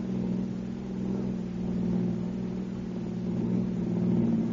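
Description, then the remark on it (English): A car engine hums steadily as a husband drives along a bumpy road, a continuous low drone with a slight rise and fall in level and no voices over it. “My husband was driving again.”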